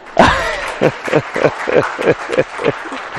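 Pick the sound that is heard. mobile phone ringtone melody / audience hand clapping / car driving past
audience hand clapping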